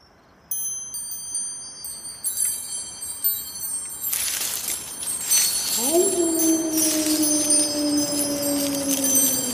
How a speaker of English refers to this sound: Oh, listen to those wind chimes.